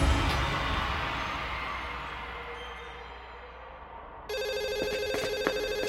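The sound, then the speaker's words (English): A telephone on a line for trust business starts ringing partway through, a bright electronic trill pulsing rapidly and steadily, loud, following a stretch of fading room noise with no one talking. “That line is for trust business only.”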